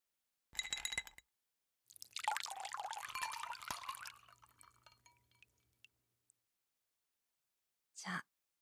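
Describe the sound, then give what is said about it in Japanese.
A brief clatter of ice in a glass, then a strong liquor poured steadily over the ice to serve it on the rocks for a couple of seconds, trailing off into a few drips, followed later by a short clink, without talk. “このお酒、ロックで飲むのがいいんだって。”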